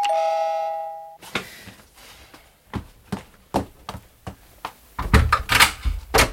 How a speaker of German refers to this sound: Ich hatte ihr gerade etwas aus meinem Krokodilbuch vorgelesen, als die Glocke an der Haustür läutete.